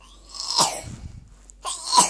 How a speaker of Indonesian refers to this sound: Oh, batuk nak. Sembuh ya. Batuk. Iya, batuk